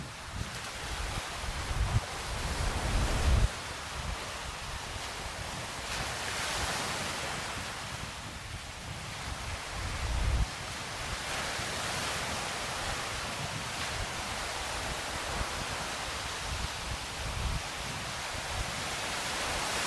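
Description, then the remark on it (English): Loud sea waves crash and wash onto the shore of a slight inlet, starting to touch a wall, in a steady, broad roar, with surges swelling every few seconds and gusty wind buffeting the microphone. “The sea's getting quite loud and raucous.”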